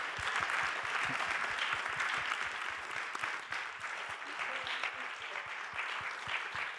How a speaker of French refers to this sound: On peut applaudir et remercier nos 4 intervenants de cette table ronde.